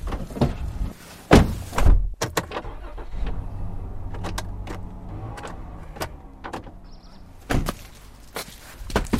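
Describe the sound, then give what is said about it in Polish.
A door is opened with several sharp clunks and latch clicks over a low steady rumble like a car idling, with no one speaking. “Już otwarte drzwi? Otwarte.”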